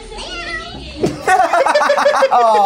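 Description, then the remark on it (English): A cat gives a short, high meow near the start, followed by a burst of animated voices talking over one another. “Was that him or was there a cat there that meowed off screen?”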